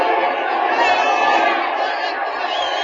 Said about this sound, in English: Ball four. Green is trotting down to first, and Dick Cole is up at bat. The crowd's going wild.